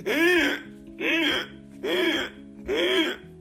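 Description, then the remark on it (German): A man gasps and rasps after choking, in four strained, voiced heaves about a second apart, each rising and falling in pitch, fairly loud with brief quiet gaps between. “Auf jeden Fall hat der ganz stark geröchelt und das dann hochgeladen.”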